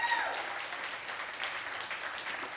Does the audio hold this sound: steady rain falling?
no